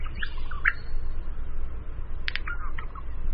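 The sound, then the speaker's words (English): A wild male regent honeyeater in Australia sings a few short, scratchy chirps and sharp metallic notes in scattered bursts, heard alone against a steady low outdoor rumble. “They found that a quarter of the birds sang variations of the traditional honeyeater song, and 12% of the birds weren't singing honeyeater songs at all.”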